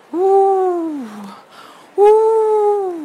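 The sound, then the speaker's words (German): Two long, drawn-out owl hoots, apparently voiced by a person imitating an owl calling from tall fir trees in a dense forest. The first hoot slides downward at the end, and a pause separates it from the second. Both are loud. “Die Eule schrie immer weiter.”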